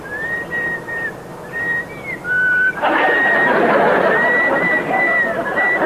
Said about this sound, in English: Hey, how do you do that? You're not supposed to whistle. You're not big enough. How old are you? Three? Jeepers, he's not even big enough to talk yet, but he can whistle.